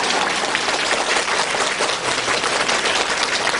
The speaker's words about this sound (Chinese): 台长把大家都当朋友一样，这么远的路啊来看望大家，所以啊大家鼓鼓掌我觉得是很正常的。